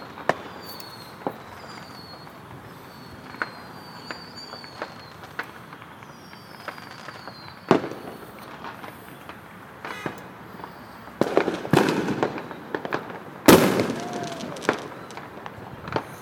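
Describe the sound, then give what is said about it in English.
Fireworks pop and crackle outside an apartment near the Los Angeles airport in Southern California, scattered bangs at first, then a denser burst of sharp explosions near the end, over a quiet background hum and faint chirping. “I'm seeing some good fireworks outside of my apartment now.”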